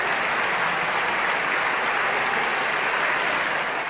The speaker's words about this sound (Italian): Dunque Sergio Mattarella succede a Giorgio Napolitano alla presidenza della Repubblica. Un applauso quasi liberatorio arriva da quasi tutta l'aula di Montecitorio, dove sono riuniti i grandi elettori.